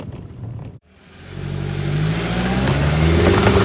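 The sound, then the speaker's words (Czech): An SUV engine revs hard under load after a brief cut, its droning pitch climbing steadily as it labors up a rutted climb after a steep, rocky descent on an off-road competition course, growing louder, with no voices. “Prudkej kopec dolů, plný šutru, potom výjezd, trochu rozježděnej, ale jsme nahoře úplně v pohodičce. I Jetík vůbec nezaváhal.”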